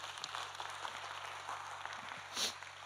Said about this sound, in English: And I appreciate the applause, but because I just said that in the first point.